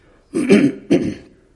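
A person clears their throat twice in quick succession, fairly loud, with rough guttural bursts and no talking.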